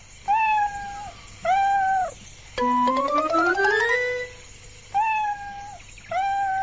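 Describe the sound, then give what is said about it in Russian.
A kitten stuck in a tree meows repeatedly in high, thin cries, about five in all, with one long, rising, drawn-out wail in the middle. The calls are clear with no talking. “Не волнуйся, котенок! Мы идем!”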